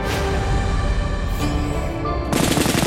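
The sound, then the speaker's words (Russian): Loud, sustained bursts of rapid gunfire from blank rounds, fired by an airborne crew right after a parachute landing to signal that all is well. A dense continuous rattle that grows harsher and more intense toward the end, with no voices. “После приземления экипаж сходу повел стрельбу холостыми.”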